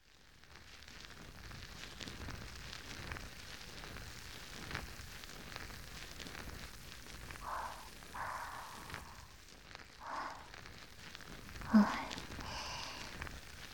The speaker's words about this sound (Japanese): 両耳の裏側から泡で洗ってくよ。